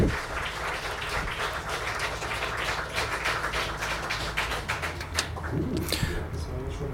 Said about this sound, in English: Thank you for your attention, and there is a warm round of applause.